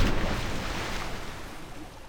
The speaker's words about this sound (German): Das hier ist Wasser.